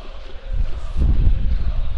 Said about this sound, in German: So, es bläst ein ganz schöner Wind hier durch. Ich schätze mal, dass man das hört. Unsere Mikros sind zwar halbwegs abgeschirmt, ich hoffe, dass das reicht und euch nicht allzu sehr stört.